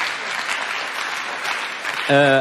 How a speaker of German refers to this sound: Ja, gebt ruhig Applaus.